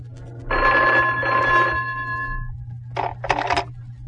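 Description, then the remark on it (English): An old-style telephone bell rings loudly in an apartment in two bursts, a long jangling ring followed after a pause by a shorter double ring, over a low steady hum, just as people come in the door. “Just as we got in the door, the phone rang.”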